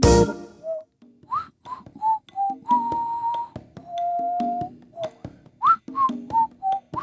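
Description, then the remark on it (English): Someone whistles a bouncy tune of short rising notes and a few longer held tones, clear, with faint background noise and a brief burst at the start. “Would you stop that whistling, …?”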